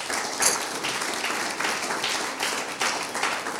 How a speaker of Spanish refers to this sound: Denle un aplauso al Señor grande.